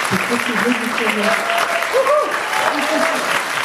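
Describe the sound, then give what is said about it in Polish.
Steady applause from an audience for the organizers of a children's literature festival in Rzeszów, a dense wash of clapping for a few seconds, with faint voices and murmurs mixed in underneath. “Myślę sobie, że powstawał w pocie czoła, więc wielkie brawa dla organizatorów.”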